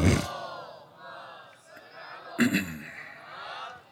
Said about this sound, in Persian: ایشالله با موبایلاتون ور نمیدید یه صلوات بلند بفرستید.